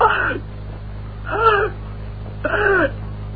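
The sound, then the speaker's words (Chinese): A man's voice imitates the heavy, labored gasping breaths of Emperor Zhu Yuanzhang on his sickbed in Wanshou Palace: three strained, voiced gasps spaced about a second apart, fairly loud over a steady low hum. “到了7月23这天，他们就在万寿宫围在朱元璋的床前，一看呢，朱元璋是大口喘气儿。”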